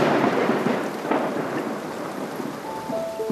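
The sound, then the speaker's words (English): Heavy rain pours steadily with a low, rolling rumble of thunder beneath it, a dense, continuous hiss that stays loud throughout, with no voices. “Outside the cave, a rainstorm had started, and lightning flashed all through the night.”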